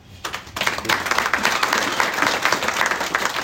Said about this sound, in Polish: Państwu brawa.